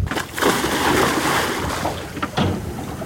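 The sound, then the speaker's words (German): Churning water noise with a couple of heavier splashing surges as a person in a wetsuit plunges into cold water and thrashes about, with no voices. “Da warst du im Wasser.”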